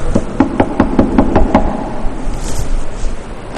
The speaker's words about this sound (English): And so when I was in that humble mood of begging God to guide me, then there was a knock on the door.